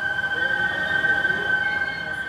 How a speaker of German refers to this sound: Dieses Pfeifen, das ist das Wasser der Seine, das durch die Filter in die schwarzen Rohre hier fließt. In den Filtern fließt sie schneller und deshalb pfeift sie. Wir sagen, sie singt.